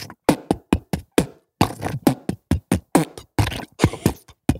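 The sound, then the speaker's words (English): A vocal beatbox beat: rapid, punchy mouth-made kicks, snares and hi-hat clicks in a steady rhythm, loud and alone with no talking. “Do you want me to apologize with a beat?”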